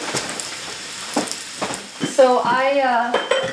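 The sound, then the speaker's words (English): Food sizzles and crisps in a frying pan with a steady hiss, broken by several dry scraping strokes of a utensil against the pan; a voice hums or speaks briefly over it near the end. “And you can hear it sounds like drier and they're kind of like scraping.”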